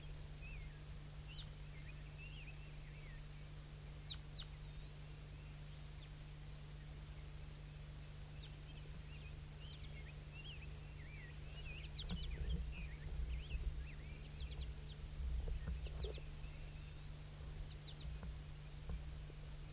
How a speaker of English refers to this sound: Start recording the wild birds again. I think there's some more wild ones flying around somewhere.